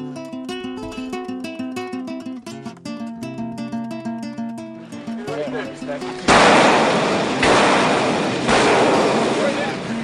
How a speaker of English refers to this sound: they send in these teams where they just run in and, like, grab people out of their houses and capture them, and that's what they do, and this is that. You can hear all the gunfire and crazy shit going on.